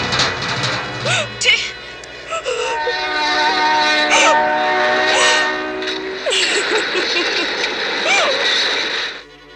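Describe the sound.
A train rumbles past, its whistle sounding in a long, steady blast that holds for nearly the whole stretch. Wailing voices rise briefly over the noise.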